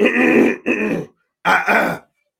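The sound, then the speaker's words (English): Someone loudly clears their throat twice, each rough, gravelly burst breaking into two quick pushes with a short silent gap between the pairs. No talking. “I got a frog in my throat.”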